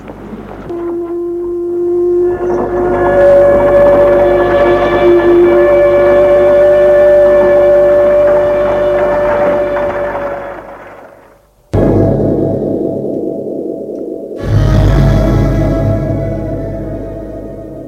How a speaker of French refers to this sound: On entend au loin le bruit des sirènes des usines.